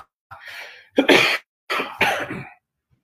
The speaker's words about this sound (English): apologies, guys. So I did warn that I am fluish today, so I'll be coughing now and again. And I apologize for that.